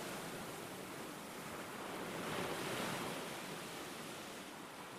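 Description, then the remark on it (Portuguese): Steady ocean surf washing in, a broad hiss of breaking waves that swells to a fuller rush around the middle and eases off again, with no voices. “Essas águas são do mar. Quanta espuma, quantas ondas, quanta praia, quanto céu.”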